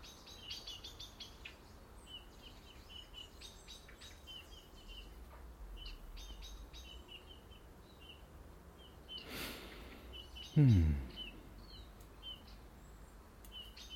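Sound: blackbird chirping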